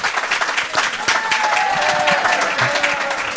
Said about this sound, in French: Bon, je voudrais qu'on applaudisse très fort … et Gérard Klein s'il vous plaît.